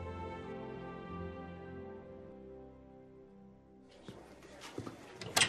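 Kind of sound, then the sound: household object, door opening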